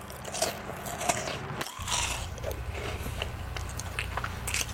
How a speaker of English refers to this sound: The smell of the food captures her attention. And before you know it, she's scarfing and wolfing the food down.